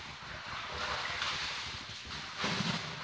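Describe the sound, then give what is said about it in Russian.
Water splashes and sloshes continuously in a rough, repeating rhythm as a large-brained mammal spins in its small pool at a zoo, with a louder surge of splashing near the end and no voices. “Вы слышите плеск воды. Но вслушайтесь внимательнее, этот плеск довольно ритмичный.”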